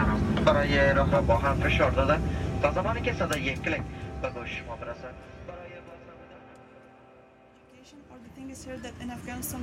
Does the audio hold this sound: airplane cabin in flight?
yes